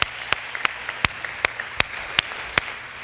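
An audience at the Orchard church applauds as a speaker makes it to the stage, a steady wash of many hands clapping with sharper claps cutting through at a regular beat, about eight loud strikes over a few seconds. No one speaks.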